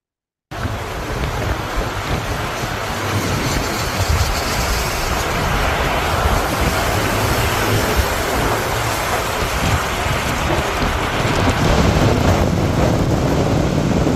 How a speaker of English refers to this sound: let me start with video one, which is the insane tornado up in Nebraska. Came over the weekend, pretty darn big. Video one coming up.